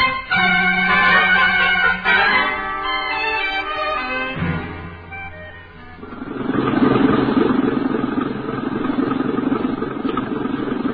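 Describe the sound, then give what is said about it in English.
An empty truck's engine idles with a steady rumble, coming in fuller partway through after some lower, droning engine tones. No one speaks. “Okay, Pop. Truck's empty.”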